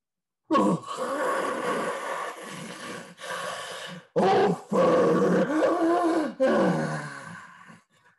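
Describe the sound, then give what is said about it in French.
A voice imitates a lion roaring: several loud, drawn-out growling bellows separated by short gasping breaks, strained, trailing off into a lower groan at the end. “Le lion se lève si vite que sa chaise bascule. Il crie.”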